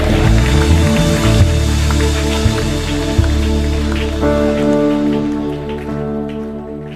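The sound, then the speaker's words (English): A church audience claps their hands for 30 seconds to give thanks to God, in a dense, steady roar of applause that lasts the whole clip, layered over sustained musical chords, with no voices standing out. “Clap your hand and thank him with your mouth for 30 seconds.”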